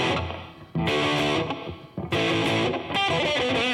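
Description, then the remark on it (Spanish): A dry, distorted electric guitar riff plays loud with no delay or reverb, a few punchy chord attacks ringing out between short gaps and no echo trailing after them. “Hacer los riffs o los solos, pero crudo, o sea, que no tenga delay, ¿no? No tiene ahorita reverb.”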